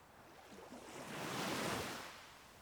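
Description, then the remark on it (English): A single ocean wave swells and washes through, a broad hiss of churning water that builds to a peak midway and then recedes. No voices. “You close your eyes and let the water swirl around you, feeling it penetrate deep into your soul.”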